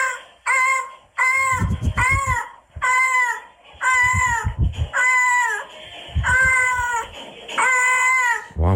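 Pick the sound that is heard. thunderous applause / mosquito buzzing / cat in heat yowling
cat in heat yowling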